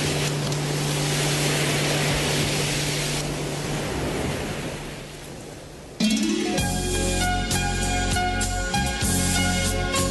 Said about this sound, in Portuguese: ó o vento no litoral.